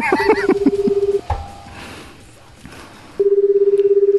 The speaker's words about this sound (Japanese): まあ今ちょっと今電話をコール中です。